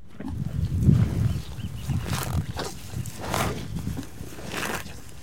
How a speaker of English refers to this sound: The cows. At any given time, there's several thousand of them roaming the pastures across Point Reyes.